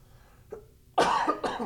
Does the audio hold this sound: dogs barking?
no